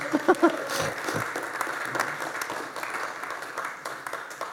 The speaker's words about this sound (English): And you're sitting in one. It's worth a round of applause, isn't it, really, that, I think?